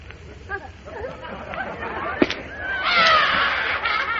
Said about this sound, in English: Now look, you see that? It burst. Well, stop crying. I'll buy you another balloon.